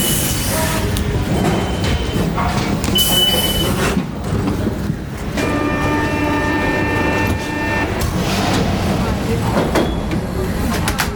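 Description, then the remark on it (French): A loud, continuous metro train ride heard from inside the car, underground, with rumbling wheels, clattering over the tracks and shrill metallic squeals rising and fading throughout. “Du coup, il est dans le métro.”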